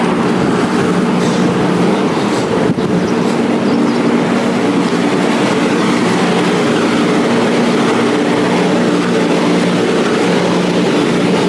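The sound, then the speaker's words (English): A loud, steady airplane engine drone at an airstrip, with a deep low hum and broad rushing noise holding constant for the whole stretch and no voices. “And the airstrip. You can probably hear a plane there.”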